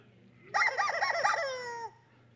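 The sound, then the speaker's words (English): A single loud, wavering squawk lasting over a second, nasal and harmonic like a squeezed rubber chicken toy, ending in a steady drawn-out wheeze before cutting off. “I'm holding a rubber chicken. And that's the sound the rubber chicken's making.”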